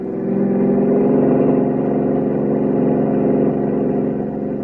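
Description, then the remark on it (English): A car engine roars steadily at high revs during a chase as the car, lights off, drives onto the bridge over the Var River; a loud sustained mid-pitched drone with a rough, throbbing texture that holds for several seconds without any speech. “I killed my lights as I roared onto the bridge over the Var River and then swung into the village of Saint Laurent, pulled into a narrow alley, and watched our pursuers whip by a moment later, following nothing.”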